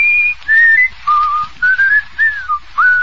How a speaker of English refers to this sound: I'm surprised he can whistle.